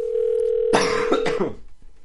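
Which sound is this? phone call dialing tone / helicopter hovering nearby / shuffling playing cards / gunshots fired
phone call dialing tone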